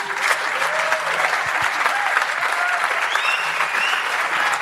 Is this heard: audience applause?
yes